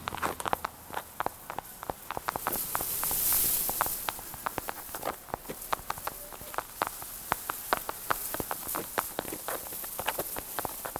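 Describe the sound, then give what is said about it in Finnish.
Tiny footsteps of a long-antennaed beetle climbing the trunk of a huge tree, its six legs gripping the bark: a dense, irregular patter of sharp, dry clicks and scratches, fairly quiet, continuing steadily with no voices. “Se taitaa olla tuo, pieni askeltaja, runkohaapsanen, joka kulkee ylös runkoani.”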